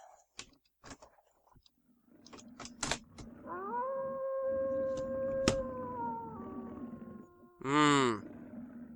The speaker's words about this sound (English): Just another dog in the night, isn't it? If I kept dogs up there...